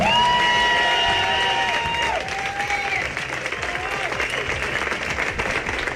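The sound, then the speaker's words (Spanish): A large audience claps steadily and loudly the whole time for Evelyn Matthei at a campaign event, with cheering voices and a few rising whoops riding over the dense applause early on. “Este aplauso es para Evelyn Matthei.”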